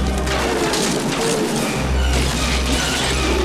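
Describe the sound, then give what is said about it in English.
A massive stalactite cracks loose in a cave and crashes down, piercing through a sled, a loud, dense smash of breaking rock over a deep, steady rumble that churns on for a few seconds with no voices. “A massive stalactite breaks off. It pierces through the sled.”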